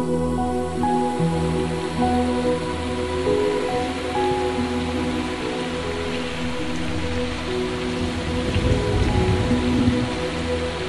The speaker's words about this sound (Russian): Дождь за окном исполняет последние истеричные танго.